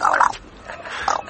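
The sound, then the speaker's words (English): A parrot squawks twice, a harsh, nasal call at the start and another about a second later, close and fairly loud, with a quieter rasp between and no talking. “Why, this old bird of mine's a dozen times wiser than Israel, ain't ya?”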